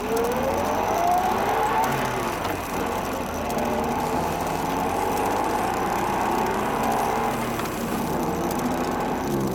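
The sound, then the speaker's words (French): A woman's car engine runs steadily around 2 a.m. on her drive home, its pitch climbing early on, then keeps droning with an uneven, sputtering quality as it starts to misfire and break down. “Mais à quelques kilomètres de là, dératé dans le moteur, la panne.”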